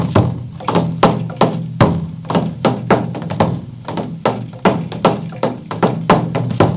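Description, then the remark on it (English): Fingers tap a hand-held instrument, held by its bottom corner in the right hand and struck with the fingers of that hand and the other hand, in a quick, steady rhythm, about three strikes a second, with some hits louder than others and a low resonant hum underneath. No one speaks. “I hold it in my right hand at the bottom corner, and I tap with my fingers that is actually holding it, and I also use the other hand.”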